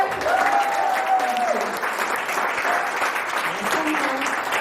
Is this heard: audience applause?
yes